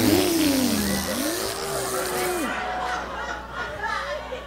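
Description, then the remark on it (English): A voice mimics a power tool motor revving up, imitating starting a vibrator called the Hachi Tachi 10,000, a buzzy drone that dips, climbs and holds for a couple of seconds before cutting off, over a steady murmur of background noise. “This is a power tool. Okay, you gotta start this vibrator up like this.”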